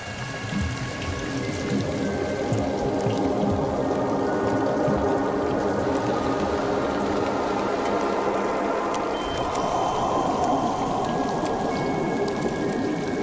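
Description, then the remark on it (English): Steady, heavy rain in Africa, the rains that end a drought, pours down without a break, a dense hiss of countless drops pattering on surfaces at an even loudness throughout, with no voices. “The lungfish may wait 4 years before the rainwater arrives to release it from suspended animation.”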